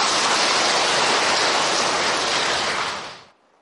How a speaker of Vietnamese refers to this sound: Đó, cho anh tràng pháo tay.